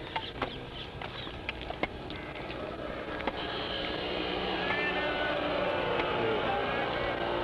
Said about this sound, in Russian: Люди, проезжающие на мотоцикле, кричат «Прабхупада». Здесь, в Дели, люди с большим уважением относятся сейчас к Шриле Прабхупаде.